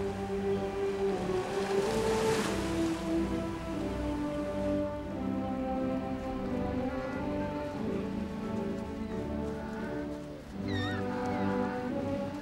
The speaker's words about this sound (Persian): اونا به مدت چند روز سعی میکنن دل و جرأت بیشتری پیدا کنن تا وقتی گرسنه شدن خودشون دنبال شکار برن. در اون آب‌های متلاطم.